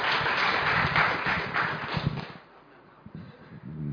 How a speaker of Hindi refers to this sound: इसलिए जोरदार तालियां सर भाई साहब के लिए एक बार।